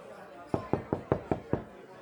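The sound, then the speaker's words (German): Six quick, evenly spaced knocks on a door by someone standing outside it, clear, rapping out a steady rhythm over a low murmur of background noise. “Und hat gerade auch geklopft. Ich weiß nicht, ob du Besuch erwartest, aber da steht noch jemand vor der Tür.”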